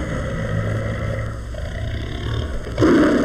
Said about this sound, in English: This low warning growl belongs to the Sumatran tiger.